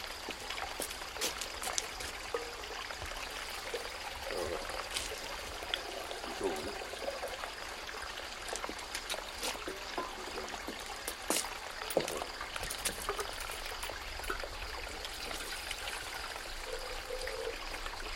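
Water from a jug, filled at a fountain, pours steadily into a saucepan in a continuous splashing trickle that runs the whole time, bright and hissy, with a few louder sloshes and gurgles breaking through now and then.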